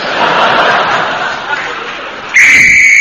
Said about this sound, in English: That's a danger whistle. It means the men in the tunnel are going to start blasting.